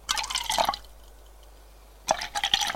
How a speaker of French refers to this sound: Elle lui sert un verre de scotch. Tiens, merci. Un deuxième.